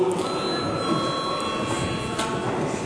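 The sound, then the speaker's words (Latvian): The chamber bell of the Latvian parliament (Saeima) rings continuously after a break is called in a budget debate, a loud, steady electric clangor that fills the hall without pause for the whole stretch, with no voices over it. “Tad debatas turpinām pēc pārtraukuma. Lūdzu zvanu.”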